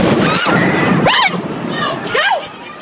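The second bomb explosion at the Boston Marathon, near the finish line, caught on a YouTube video: a loud, broad roaring burst fills the first second, then rising and falling screams and shouts ring out over crowd hubbub.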